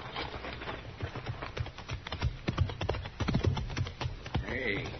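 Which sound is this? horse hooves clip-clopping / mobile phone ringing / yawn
horse hooves clip-clopping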